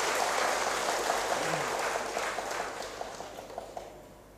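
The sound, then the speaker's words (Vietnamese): A crowd at the 2019 United Nations Vesak conference applauds its sponsors steadily, a dense wash of many hands clapping at once that holds for several seconds before thinning slightly toward the end. “Xin cho một tràng vỗ tay để tán dương chung.”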